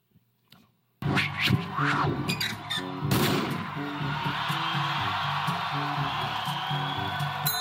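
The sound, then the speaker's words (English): A loud, steady roar of a crowd cheering at a marathon starts abruptly after a brief quiet moment, with sharp bursts and a melodic tone pattern running through it to the end. “Listen, everyone cheering.”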